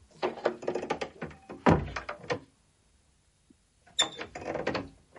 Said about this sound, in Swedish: Och då brukar det börja med att han går in på rummet och stänger dörren.